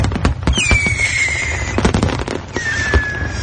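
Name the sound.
fireworks exploding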